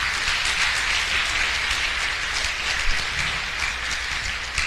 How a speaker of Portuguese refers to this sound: Então, uma salva de palmas